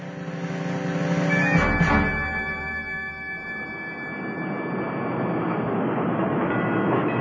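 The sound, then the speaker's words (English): An interurban railway car rushes past an interurban stop without slowing down, with a loud rolling rumble and a steady electric whine. A sharp burst of noise marks the pass, then the clatter of wheels carries on. “The car passed us right by.”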